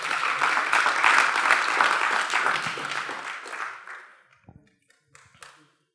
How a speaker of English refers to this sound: Yeah, kids, y'all are going to be dismissed. Y'all give our kingdom kids a big round of applause. Amen.